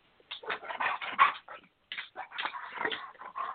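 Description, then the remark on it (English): A dog whimpers and yips in a rapid string of high, whiny cries, then lets out a few short barks after a brief pause, moderately loud with no talking. “So we talked about that particular passage, having to let my dogs out.”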